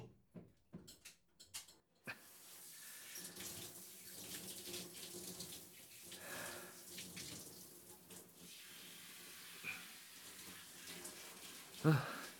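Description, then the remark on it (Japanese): A few brief clicks and taps, then a shower starts up and runs steadily to rinse a person off, a continuous hissing spray of water splashing down for about ten seconds. “今シャワーで流すよ。”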